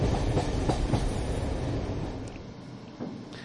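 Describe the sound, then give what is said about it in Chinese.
A short radio jingle for a railway news segment, built from train sounds: a loud, steady rail rumble with rhythmic wheel clacks, easing off slightly toward the end. No one speaks. “至于陣間聽咩呢，好耐冇播過呢個 Jingle 囉噃。”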